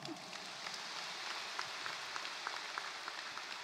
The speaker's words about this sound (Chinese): 鼓掌。